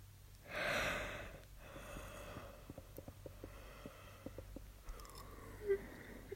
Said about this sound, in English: Stop yawning. I have to yawn if you yawn.